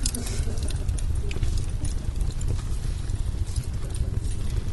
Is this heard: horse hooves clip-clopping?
yes